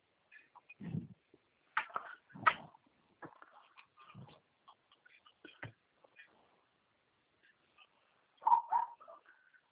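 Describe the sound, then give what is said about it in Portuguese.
A dog barks a few times at irregular intervals, short sharp yaps separated by quiet gaps, fairly soft, with a final cluster of barks near the end. “Esse cachorro está latindo.”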